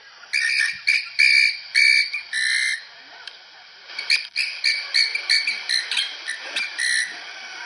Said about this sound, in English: So check this out again. This is a llama doing kind of like an alert call to the other llamas.